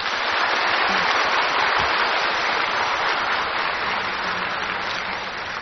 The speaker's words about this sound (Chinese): 好，我们现在哈以热烈的掌声恭请青海师父为我们开示。